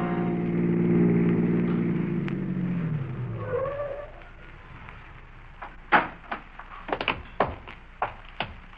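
A car engine rumbles and winds down as the vehicle slows to a stop, then a series of sharp thuds and clunks follows, like a car door closing, with no talking.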